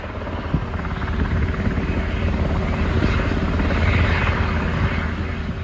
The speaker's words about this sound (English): Thinking about 10:30, the helicopter arrived.